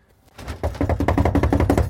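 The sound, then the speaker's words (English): A person knocks on a front door after opening the glass outer door and pressing the doorbell: a quick, steady run of solid knocks, fairly loud, starting after a brief softer sound and continuing in an even rhythm with no one talking. “I'm going to open up the glass thing, hit her doorbell, and knock.”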